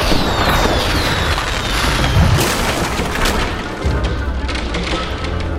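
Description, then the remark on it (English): Fireworks explosives rigged on a wooden drawbridge detonate, blowing up the bridge: a loud, sustained explosion with booming low rumbles, crackling bursts and splintering debris, continuing as a dense, chaotic roar of blasts and crashing wood for several seconds. “Blew up the bridge.”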